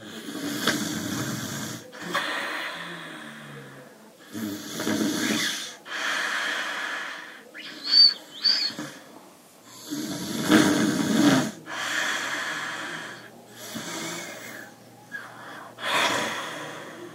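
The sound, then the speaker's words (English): A grandmother's heavy, raspy snoring, recorded by her granddaughter, repeats in long cycles of noisy inhales and exhales, with occasional snorts and gasps, fairly loud, with no talking. “And then she moved to a different city, and she started to, like, have strong sodage for her grandmother snoring. And so she recorded it.”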